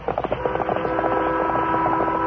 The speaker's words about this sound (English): As they approached Bent's Mountain, the Lone Ranger heard the whistle of the eastbound train.